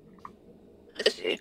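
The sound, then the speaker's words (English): A short sneeze breaks a quiet stretch: a small catch of breath, then a sharp, breathy burst followed by a second, softer gust, lasting under half a second. “Bless you, whoever sneezed.”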